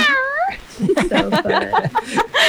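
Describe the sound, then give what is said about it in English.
Human voices imitate cat meows in pirate style for National Meow Like a Pirate Day, a drawn-out wavering meow followed by a string of shorter, growly meows in quick succession, fairly loud, with a hint of laughter mixed in. “So it's National Meow Like a Pirate Day. So we all got to give our best pirate meows.”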